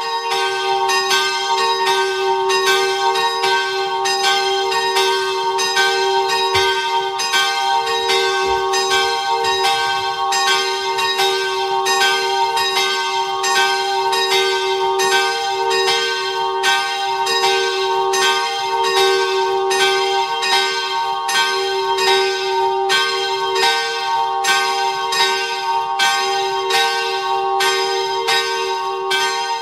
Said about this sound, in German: Es ist 12 Uhr. Sie hören die Glocken der Kirche Herz Maria in Bludenz in Vorarlberg.